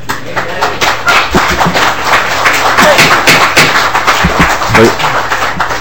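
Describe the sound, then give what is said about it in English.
An audience claps steadily, a dense wash of overlapping hand claps at an even, fairly loud level that holds for several seconds, with some voices mixed in underneath. “Please keep applause to yourselves.”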